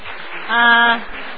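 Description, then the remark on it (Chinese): A church audience applauds its elders aged over 65, who stand, in a steady, dense wash of clapping, with a short voiced tone rising over it midway through. “我们可不可以请65岁以上的长辈们起立，我们给你们鼓掌。”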